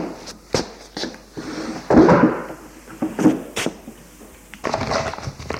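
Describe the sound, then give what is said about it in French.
A wooden drawer in an Empire-style study is pulled open, with a rough scraping slide, several sharp knocks and rattles, and a final rummaging clatter as a brown leather folder is taken out. No one speaks. “Va ouvrir un tiroir.”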